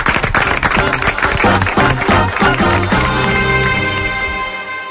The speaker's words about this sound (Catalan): Aplaudeixin-se vostès mateixos, perquè, filles, si no ens aplaudim nosaltres, qui ho farà?